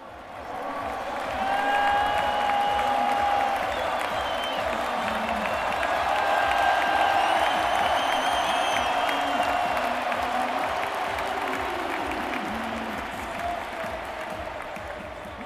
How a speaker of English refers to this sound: Actually, Alberto Contador got a huge cheer, didn't he? Arguably as big as for Barguil there.